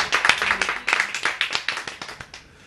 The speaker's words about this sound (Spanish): Un aplauso para esas madres.